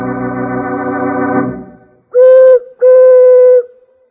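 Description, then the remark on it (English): A prairie chicken's booming call: two loud, steady, hollow hooting tones, each held for about a second, following a buzzy, droning sound that fades out. No one speaks. “They call that the booming call of the prairie chicken.”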